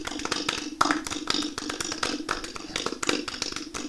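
Steady applause from a crowd, a dense patter of many hands clapping at once, moderately loud and sustained throughout with no voices standing out.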